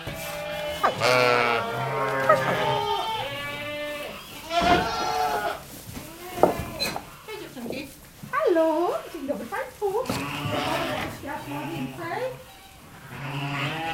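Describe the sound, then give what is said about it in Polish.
Several sheep on a farm, including Romanov, Polish Lowland and Welsh black-nosed breeds, bleat repeatedly, their wavering, overlapping cries filling most of the stretch, with a few shorter calls between louder bursts. No one speaks. “Teraz idziemy do owiec. Cześć dziewczynki.”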